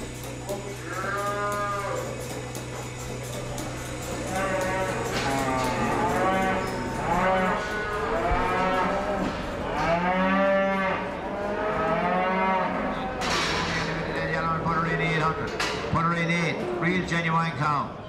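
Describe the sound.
Cattle moo over and over at a livestock auction as bids of around €800 to €820 are called for a cow in the ring, loud drawn-out lowing calls rising and falling in pitch, with indistinct voices and a steady low hum underneath.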